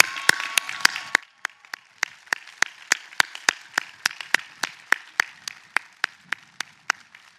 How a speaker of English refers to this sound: As we celebrate the enormous accomplishments of our graduates, we celebrate as well all who helped to make such accomplishments possible. So, a well-earned round of applause.